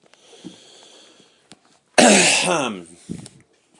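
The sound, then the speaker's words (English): A solicitor in a courtroom clears his throat once, a loud, raspy rumble lasting under a second, with a few faint, brief sounds before and after it. “Clearing his throat, the solicitor began.”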